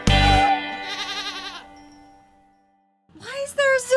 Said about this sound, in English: Pet sounds. You specifically requested goats.